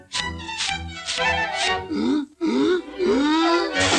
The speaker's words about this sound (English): The force of the sneeze throws Mickey onto the grooming kit, and a cylindrical object rolls away.